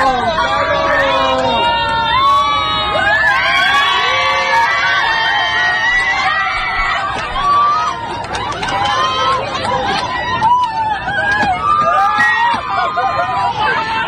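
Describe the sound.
A packed crowd of passengers aboard a plane shouts and cheers, egging on a flight attendant to open a bathroom door, excited overlapping voices rising into a high scream as the door opens with a thud, loud throughout.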